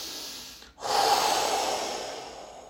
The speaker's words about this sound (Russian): То есть вдыхаем мы носом, выдыхаем мы ртом. 30 быстрых, глубоких вдохов сделали, короткие выдохи сделали. И когда 30-й вдох делаем, мы делаем выдох максимально сильный.